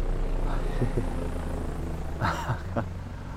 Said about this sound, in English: A helicopter. You know who likes flying those around.